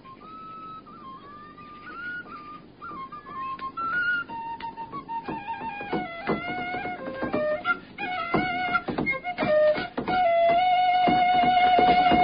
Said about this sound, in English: You're getting better in that whistle.